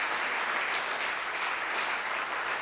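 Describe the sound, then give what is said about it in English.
A standing audience claps their hands to give God praise, in steady, dense applause that holds at an even loudness throughout, a continuous wash of many overlapping claps with no voices standing out. “And can we just clap our hands and just give God the highest praise?”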